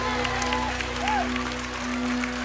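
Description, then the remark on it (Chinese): An audience claps steadily to give glory to God, a dense wash of many hands over a low sustained hum, with faint voices and tones rising briefly through the applause. “拍手把荣耀归给他好不好？”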